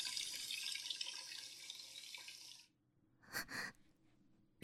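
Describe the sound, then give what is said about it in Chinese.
A tap runs in a steady, bright hiss for nearly three seconds as a pot is rinsed, then the water shuts off, followed by a brief pause and two short splashy bursts. “我先把这个锅洗了。”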